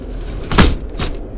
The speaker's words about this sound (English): Let's hear the sound of our door closing.